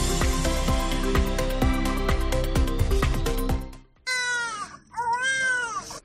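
About four seconds of rhythmic music with steady beats cuts out, then a newborn baby cries loudly on its own, two high, wavering wails with a short break between them.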